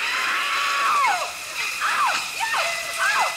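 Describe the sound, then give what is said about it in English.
A woman's horror-movie scream: several sharp, wavering shrieks that rise and fall in quick succession, loud over a steady hiss of rushing water. “Or Janet Leigh from Psycho.”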